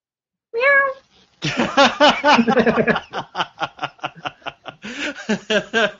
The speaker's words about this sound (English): Meow. He has a cat named Massey.